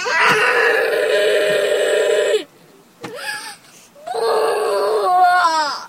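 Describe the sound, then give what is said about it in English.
A child having a tantrum in a car on a hot summer day, hot, sweating and refusing to get out of the car, wails loudly in long, strained, high-pitched cries, breaking off for a couple of seconds of ragged, sobbing breaths before launching into another sustained howl that wavers and rises. “It's summer, he's hot and sweating, and he will not get out of the car.”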